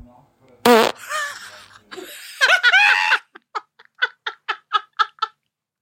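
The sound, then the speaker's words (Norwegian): A loud, sputtering fart rips out near the start, followed by a run of rhythmic, breathy giggles that pulse steadily until the end. “Altså, det jeg så misunnelig på folk som kan fise sånn.”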